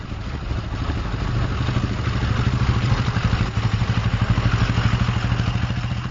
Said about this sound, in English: A block away up the hill, cars and trucks and motorcycles line up the intersections to detour on First Street for southbound traffic.